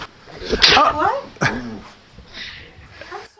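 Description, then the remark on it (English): A dog lets out a couple of high, wavering whimpers and sharp yips, followed by quieter, softer whines fading out over a low background murmur. “Okay, we got the dog, we got the kid, everything's happening again.”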